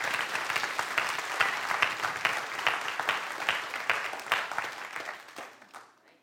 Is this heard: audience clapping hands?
yes